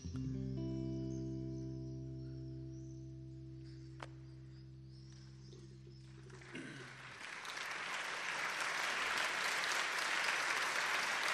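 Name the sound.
sustained applause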